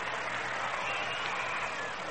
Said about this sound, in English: And the crowd is a bit noisy right now.